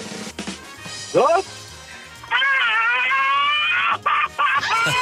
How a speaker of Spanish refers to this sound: Pero que haga el grito y buenísimo.